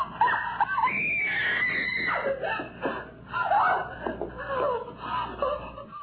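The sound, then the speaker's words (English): A person imitates a screaming monkey with loud, shrill, warbling shrieks, the pitch leaping and wavering in rapid bursts for several seconds without a break. “Sound like a motherfucking monkey screaming.”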